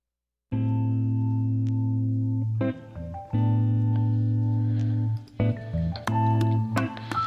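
The instrumental intro of the closing song on a WFMU radio show opens with loud, sustained distorted chords that hold, break briefly and shift to new chords, with brighter accents creeping in toward the end. No voices.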